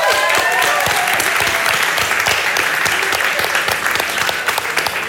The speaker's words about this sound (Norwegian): Ja, jeg regner med det, og vi tar henne godt imot. Gi en stor applaus til Alexandra!